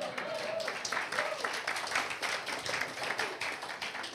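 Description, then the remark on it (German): Audience applause for the people who serve in the café downstairs fills the whole stretch, a dense, steady patter of many hands clapping at moderate loudness, with a faint murmur of voices underneath. “Ihr könnt auch Applaus geben.”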